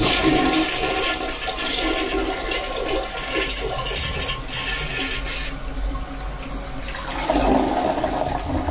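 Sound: toilet flushing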